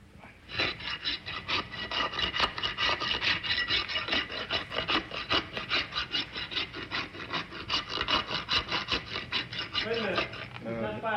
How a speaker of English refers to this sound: take one, filing horse's hoof.